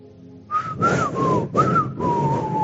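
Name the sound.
whistling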